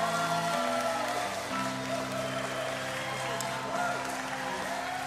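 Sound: church audience applause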